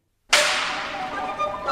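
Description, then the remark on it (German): A single loud, sharp whip crack snaps out of silence, opening a piece by Maurice Ravel, its bright burst trailing into a sustained, ringing wash of sound that lingers to the end. “Ein Peitschenknall und schon geht's los mit dem rasanten Ritt durch die fabelhafte Welt des Monsieur Maurice Ravel.”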